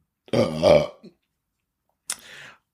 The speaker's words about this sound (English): Oh, I'm burping again. Here we go. That's the tea that I just had. Oh, another one's coming.